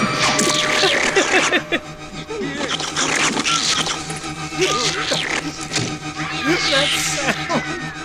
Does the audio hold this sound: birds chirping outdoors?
no